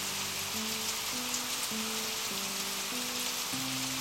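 Steady rain patters on a hard surface in a continuous, even hiss, while soft sustained low tones shift pitch every half second or so beneath it.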